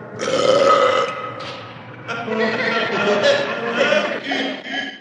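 A loud, drawn-out belch, raspy, rumbling on for several seconds with a brief dip partway through before it swells again and trails off.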